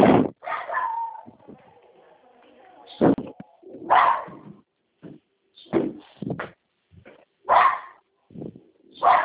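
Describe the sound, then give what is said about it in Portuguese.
A female dog barks loudly in irregular bursts, around eight sharp barks, with higher whimpering whines drawn out between the early barks. “Tem que aquela cachorra lá”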